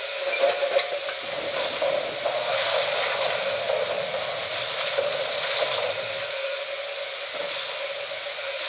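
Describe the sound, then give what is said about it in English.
Water pours steadily into a tank being filled to the top while taking on coal and water, a continuous rushing hiss that holds at an even level for the whole stretch with no voices. “I built the tank to the top and I didn't get my shoes wet.”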